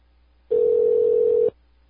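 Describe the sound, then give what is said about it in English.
A single steady electronic ringback tone over a phone line, one unbroken burst lasting about a second, fairly loud and alone with no voices, then quiet line hiss, from an unanswered call to a campaign office. “No one's gonna answer the phone at her campaign office.”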